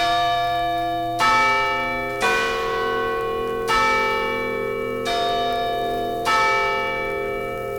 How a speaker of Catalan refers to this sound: És a dir, els joves del poble, el matí de festa major, pujaven al campanar a tocar les campanes anunciant la festa.